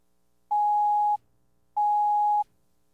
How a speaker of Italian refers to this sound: Il telefono suonò.